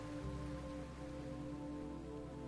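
A steady wash of ocean surf hisses evenly throughout, without distinct swells, layered over a soft, sustained low drone. No one speaks.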